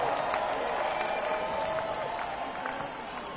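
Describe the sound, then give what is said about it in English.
A crowd from the greater San Diego Oceanside area cheers and applauds for themselves, a dense wash of clapping with whoops and shouts rising above it, staying loud and even throughout with no single voice standing out. “Cheer for yourselves.”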